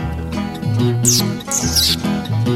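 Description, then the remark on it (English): Two shrill, high-pitched squeaks, a voice mimicking a mouse, each sliding downward in pitch, ring out over steady background music with a low, rhythmic bass line. “I saw the wild mouse and the wild mouse squeaked.”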